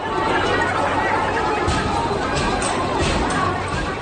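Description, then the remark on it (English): A dense crowd of anti-government protesters in Hong Kong, on their 15th straight weekend of protest, murmurs and chatters continuously as water cannon and tear gas are used against them. It is a steady wash of many overlapping voices with occasional sharper bursts rising above the din, as if outdoors among a large gathering. “Water cannon and tear gas being used against crowds of protesters on the 15th straight weekend of anti-government action.”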